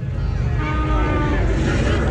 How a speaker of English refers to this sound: Is that a Hemi under that hood?